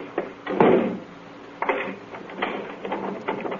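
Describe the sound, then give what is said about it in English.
A door thuds shut, followed by a few sharp metallic clicks and rattles as a lock is turned. No voices. “Lock the door on your way out.”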